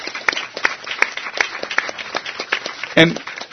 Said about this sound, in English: So, again, let's hear a round of applause for those who did act.